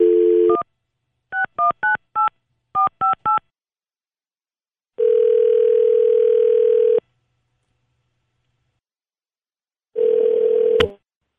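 A phone line picks up with a dial tone, followed by two quick bursts of keypad dialing tones, then two long ringback tones separated by silence, the second cut short as the call connects.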